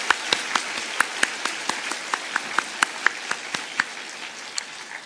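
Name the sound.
audience applauding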